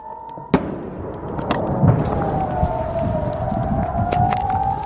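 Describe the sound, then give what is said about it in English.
A long, steady air raid siren in the northern Israeli town of Nisher wails across the whole recording, warning of incoming rockets and drones from Lebanon and Iran, over dense background rumble, with a single sharp bang early on, like a blast or firework. “Residents of the northern Israeli town of Nisher say they are living under constant threat as sirens warn of incoming rockets and drones from both Lebanon and Iran.”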